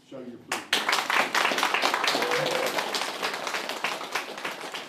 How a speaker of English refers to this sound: And this applause, well, that's for Katrina Gower, the person who has been driving this project in her spare time.